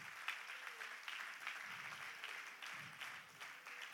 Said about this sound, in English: Come on, let's give him a hand clap of praise, and you may be seated.